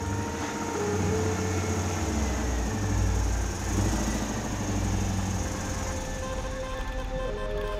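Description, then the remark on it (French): The engine of a brand-new Citroën 2CV chugs and sputters steadily in Paris, a low rumbling drone with uneven putters running throughout, no voices present. “Désormais, Pipa peut pétarader dans la capitale avec sa deux chevaux flambant neuve.”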